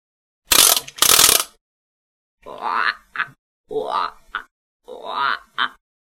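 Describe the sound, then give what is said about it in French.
An agile frog in a pond: two short, noisy splash-like bursts, then three raspy, gurgling croaks, each followed by a quick clipped second note, evenly spaced and fairly loud with silence between. “une grenouille agile.”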